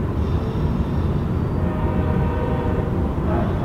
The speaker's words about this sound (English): So we're going to leave all the sound of trains going by on the mighty Fraser River.